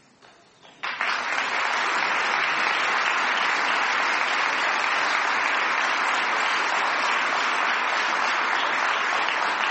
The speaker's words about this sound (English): And I wish they could be here to hear your applause.